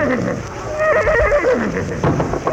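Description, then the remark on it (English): A horse gives a single wavering whinny, loud, over a steady rushing background noise that continues throughout. “Oh, they're horses.”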